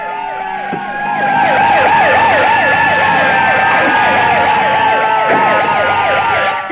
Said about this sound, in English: A fire engine just pulled up.